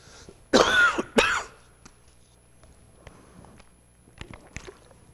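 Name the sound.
coughing and throat clearing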